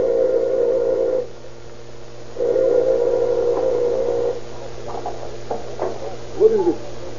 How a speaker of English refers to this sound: A few moments after he has entered the house, Dr. Hatch hears the doorbell ring.